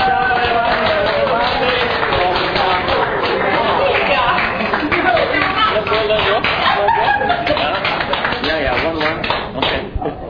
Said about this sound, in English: Clap our hands for the moms. Fate le mani per le mamme.